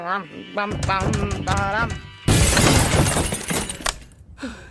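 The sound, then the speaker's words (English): A door is smashed in with a loud, sustained shattering crash lasting over a second, right after a warbling, wavering vocal sound, then fading into a brief quieter tail. “Your door is broken.”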